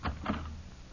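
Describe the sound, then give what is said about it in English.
A door is opened quietly: two soft knocks, a latch click followed a moment later by a duller thud, then a faint low rumble of room noise with no voices. “be careful opening the door.”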